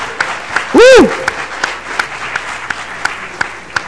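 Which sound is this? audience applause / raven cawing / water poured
audience applause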